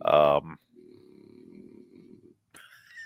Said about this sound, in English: Well, there's Odie. What a dog. He's a Frenchie. Frenchie snore.